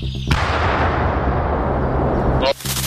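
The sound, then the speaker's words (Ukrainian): A single loud shot from a Ukrainian Armed Forces mortar crew firing on a concentration of Russian infantry in the Kharkiv direction, Ukraine: a sharp blast followed by a long, heavy rolling rumble that fills a couple of seconds before cutting off abruptly. “Зараз Збройні Сили України ведуть вогонь по скупченню піхоти російської армії, яка пробує чергове пройти до позиції ЗСУ на Харківському напрямку.”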